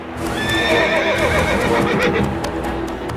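A black horse carrying a knight whinnies loudly as it comes onto a tournament field, its rising, wavering cry ringing out over a steady clatter of hooves clip-clopping on hard ground.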